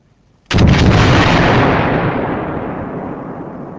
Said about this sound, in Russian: Граната взорвалась, но Гейдрих не был убит.